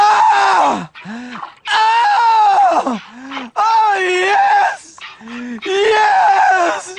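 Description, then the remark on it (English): A dairy cow moos loudly, several long, drawn-out bellowing calls with short lower grunts in between, rising and falling in pitch over a few seconds. “So when you hear this, finally, I'm one of those guys who can't wait to get to work in the morning, like a dairy cow.”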